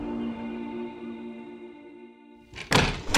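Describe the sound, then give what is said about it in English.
A door opens with a couple of sharp clunks from the latch and handle, after a sustained humming musical tone fades out. “Daniel Collins opened the door to two men who wore lackluster black business suits”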